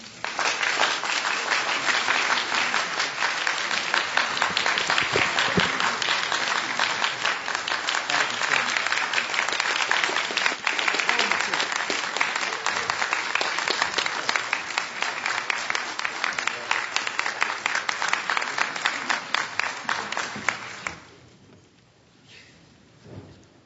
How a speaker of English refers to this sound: And today what I've done is just a small gift to thank them for all they do for us. And it wouldn't be Baptist if we didn't give them a round of applause for all they do.